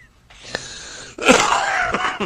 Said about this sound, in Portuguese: Acaba com isso aí também. Isso aí também acaba com essa tosse.